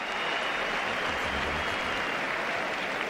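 Sustained applause from a crowd of about 12,000 on the Manolo Santana tennis court at the Caja Mágica, an ovation for Rafa Nadal after his 6-4, 6-3 win. A dense, steady roar of clapping and cheering holds at full loudness throughout without any break.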